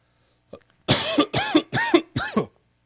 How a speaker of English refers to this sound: Let's cough and then pray.